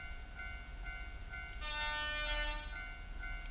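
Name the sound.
train passing by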